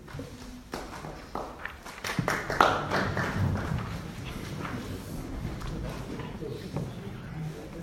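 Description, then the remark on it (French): A few scattered, muffled handclaps tap out irregularly over a low murmur of background voices, never building into full applause, at a municipal council meeting in Charenton. “et merci pour les quelques applaudissements étouffés.”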